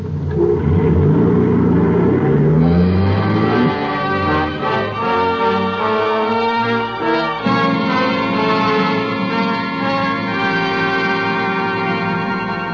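A car engine revs up loud, its pitch climbing over the first few seconds before settling into a steady, throaty drone as the vehicle pulls off.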